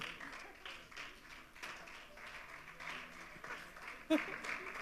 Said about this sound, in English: Your stage and your applause.